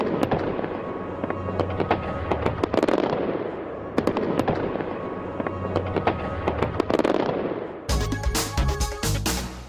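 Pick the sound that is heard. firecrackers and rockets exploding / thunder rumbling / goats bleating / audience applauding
firecrackers and rockets exploding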